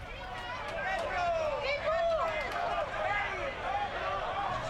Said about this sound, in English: The voices you are hearing are from a different crowd to the ones attracted by Mussolini or Casa Pound. Migrants, locals, young and old, spilled to the street and congregated in the Duomo Square that night in protest